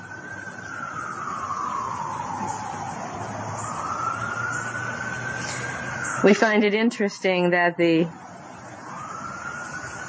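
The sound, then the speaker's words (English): An emergency vehicle siren wails in the vicinity of a house in a slow, steady rise and fall of pitch, holding for several seconds before a man briefly speaks over it, then the wail climbs again. “alarm bells are ringing on an emergency vehicle in the vicinity of this house”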